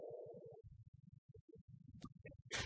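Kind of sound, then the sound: human body sound, sneeze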